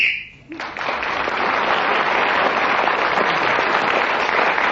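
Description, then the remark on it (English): A short, shrill referee's whistle blast sounds at the start, marking the end of a timed round of a game as Clement Freud is speaking and gains an extra point. It then breaks into steady, loud applause that carries on evenly for several seconds with no voices. “So, Clement Freud's increased his lead, speaking again as the whistle went, getting the extra point, and Derek Nimmo takes the next round.”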